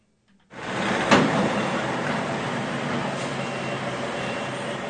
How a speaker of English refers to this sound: At Centennial Hall on Wednesday afternoon, sounds of heavy equipment moving a nearly 50-year-old canoe. The giant wooden canoe is adorned with Native design and has been parked between Centennial Hall and Kettleson Memorial Library for years.